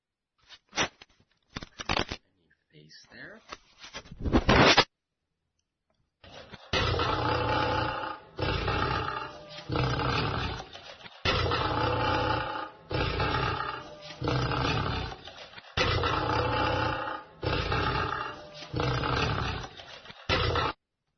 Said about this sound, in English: And here are recordings of different sounds the lions make. First, we have the lion's hum.